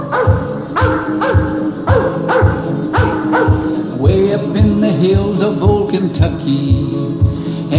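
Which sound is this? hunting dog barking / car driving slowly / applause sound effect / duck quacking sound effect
hunting dog barking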